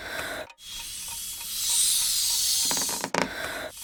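Someone blows up a balloon by mouth, to be tied with a bright ribbon: long, breathy, hissing puffs of air, broken by two quick pauses for breath, with a faint rubbery squeak near the end.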